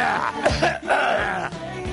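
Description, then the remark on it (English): A man coughs, a few rough, throaty bursts in quick succession with a gravelly, strained edge, fairly loud and filling the short moment. “Can a guy get a little cough here without”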